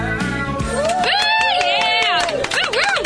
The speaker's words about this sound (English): Thank you. Thank you. Thank you for that spontaneous round of applause. Could it have taken longer for you guys to applaud?